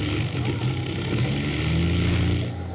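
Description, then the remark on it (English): The engines of a plane flying very low in strong wind drone loudly and steadily, a thick, throbbing low rumble with a slight rise and fall in pitch, continuous for the whole moment with no voices. “Listen. There go the engines.”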